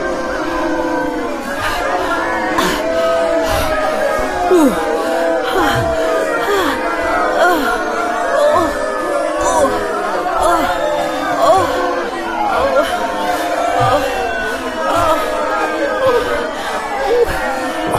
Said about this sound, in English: The crowd is getting larger. We must be getting closer to Lance.